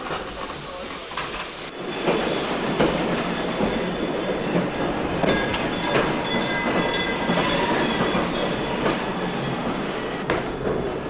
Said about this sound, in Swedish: Där rycker tåget så sakta ligger igång utifrån Sankt Olofs station.